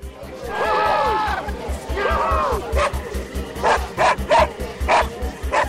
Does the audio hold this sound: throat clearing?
no